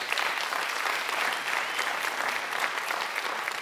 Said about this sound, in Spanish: Entonces, denle un aplauso a los líderes, por favor.